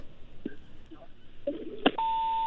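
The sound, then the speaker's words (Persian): A sharp click on a phone line, then a steady, fairly loud electronic tone as a listener's call to a radio call-in show disconnects, after a stretch of faint line noise. “متاسفانه که تلفنشان قطع شد.”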